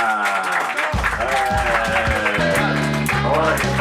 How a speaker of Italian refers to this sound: Però adesso io direi che se lo accogliamo con un applauso lui potrebbe arrivare,